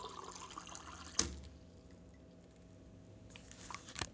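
Water for tea pours into a mug in a steady, gentle stream, with a sharp clink near the start and a few small knocks toward the end. Fairly quiet, with no talking.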